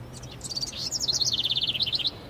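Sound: person imitating bird chirping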